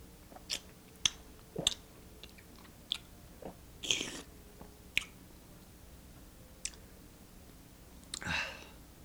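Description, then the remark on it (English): A mouthful of elderberry wine being tasted: quiet, wet lip smacks and tongue clicks at irregular intervals, ending with a longer airy slurp as the wine is drawn across the palate. “This is where you taste it. Okay, now we take a mouthful here.”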